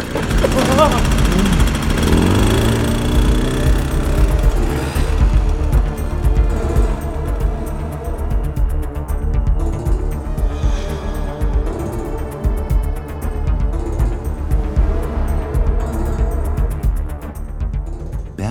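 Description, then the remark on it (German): A motorcycle carrying two riders revs up with a rising whine, then settles into a steady, labored drone as it struggles uphill, loud for the whole stretch. “Sich das Motorrad schwer.”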